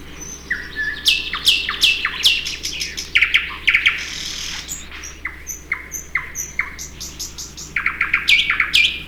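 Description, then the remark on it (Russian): A Siberian rubythroat sings a rich, varied song of sharp whistles, trills and buzzy phrases, delivered in quick bursts over a faint low hum, with no voices. “Вы слышите сейчас соловья-красношейку. Сибирская красношейка, эту птичку называют еще и так.”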